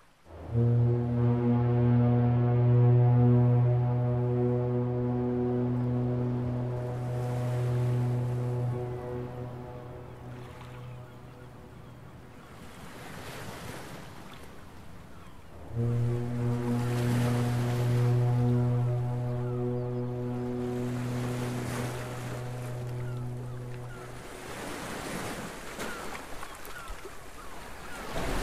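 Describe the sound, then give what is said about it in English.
A deep foghorn at a lighthouse sounds two long, droning blasts several seconds apart on a foggy night, loud and resonant, over a steady wash of wind and sea noise. “It was on nights like these that Angus felt a twinge of unease, the oppressive silence broken only by the distant cry of seabirds and the mournful toll of the foghorn.”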